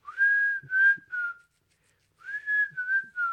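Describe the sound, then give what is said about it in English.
A person whistles the jaunty theme tune of the old TV show The Andy Griffith Show, two bright phrases of a few notes each separated by a brief pause, with no talking. “See, no, it was the one with the whistling, like the Andy Dick.”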